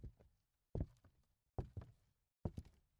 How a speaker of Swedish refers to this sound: Med bakbundna händer och bundna fötter hör Herbert Clutter plötsligt fotsteg närma sig.